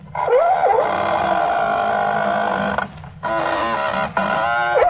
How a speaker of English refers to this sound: But look what trouble they went to give you what they thought a Roman galley sounded like. They took a squeaking door. Two squeak boxes, which are leather devices giving forth various squeaks.